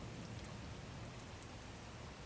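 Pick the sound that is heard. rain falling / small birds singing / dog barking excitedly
rain falling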